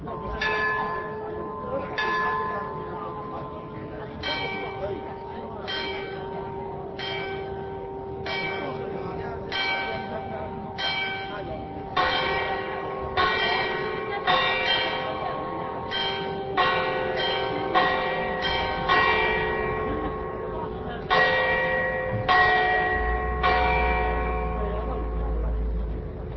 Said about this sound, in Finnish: Nämä kellojen äänet tulivat tämän poliisilaitoksen talon tornista, kahdesta eri kellosta.